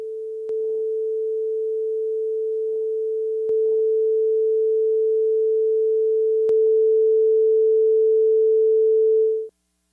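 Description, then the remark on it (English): A steady, pure high-frequency electronic test tone with phase distortion holds unbroken for about ten seconds, growing slightly louder in steps, with a few faint clicks scattered through it before it cuts off. “I've got another one up higher. Phase distortion in higher frequencies is a little bit more locatable.”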